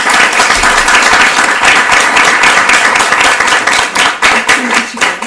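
A crowd breaks into steady, dense applause for a novel being presented, many hands clapping together fairly loudly, sustained for several seconds with a few sharper claps standing out near the end.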